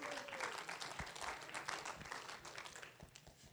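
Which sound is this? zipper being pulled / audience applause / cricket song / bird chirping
audience applause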